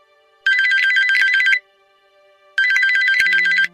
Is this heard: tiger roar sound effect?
no